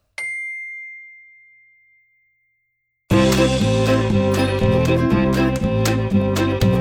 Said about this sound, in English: Now listen again to the story of Luce Moore and repeat the words when you hear the bell.